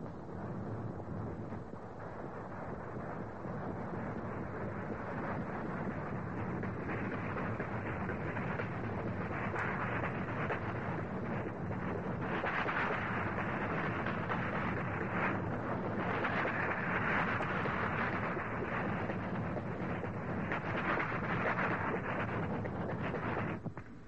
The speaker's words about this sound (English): Oh, here's the sound. Remember this one? This is the one that used to put you to sleep, the clickety-clicks of the wheels.